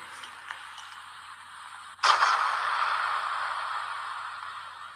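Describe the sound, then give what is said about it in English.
A sudden explosion sound effect bursts in partway through, loud and sharp, then trails off into a long, hissing, crackling decay. Before it there is only a faint, steady background noise. “So, yeah, I was just about to go with a bang on these explosions.”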